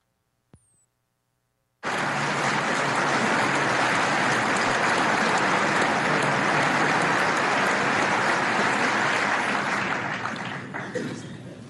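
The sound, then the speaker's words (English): After a brief click and a moment of silence, loud, sustained applause from a large crowd fills a big room, a dense wash of clapping that holds steady before tapering slightly at the end. “Let's go ahead and hear the rest of the applause.”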